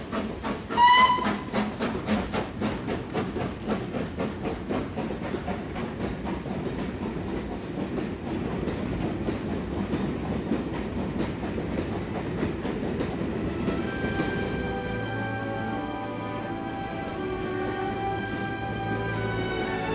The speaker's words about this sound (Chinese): 艾伟德告别了家人朋友，搭乘火车踏上中国的旅程。